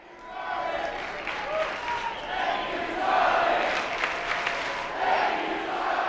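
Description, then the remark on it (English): A large crowd at America Fest chants "Thank you, Charlie" in unison while applauding Charlie Kirk as he walks on stage and tries to speak, a dense, steady roar of voices and clapping that swells and surges rhythmically throughout, sounding big and reverberant. “Kirk attempted to speak, but the crowd wouldn't stop chanting, "Thank you, Charlie."”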